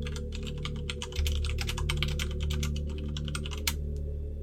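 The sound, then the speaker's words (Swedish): Rapid, irregular clicking of keys on a computer keyboard as someone googles during a bus trip, steady and fairly loud over a low droning hum, with the typing breaking off shortly before the end. “och på bussresan så börjar hon googla igen.”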